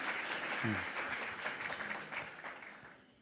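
Steady applause from an audience, a dense patter of many hands clapping at a fairly even loudness, with a brief voiced sound rising out of it early on.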